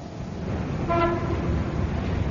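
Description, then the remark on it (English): An approaching ambulance siren, in the radio drama Crisis, gives a short, steady, mid-pitched blare, rich in harmonics, rising out of a dense bed of traffic rumble and noise before fading back into the din. “Hear that, dear? The ambulance is coming.”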